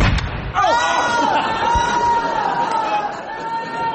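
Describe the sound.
A loud explosion bursts out on a ship near the start, ending a mutiny, then a sustained, ringing wail of raised voices carries on over a rumbling background until the end.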